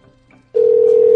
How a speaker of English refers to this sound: She, like, threw the phone down and it hit the alarm button, so it's not going to go off in the morning.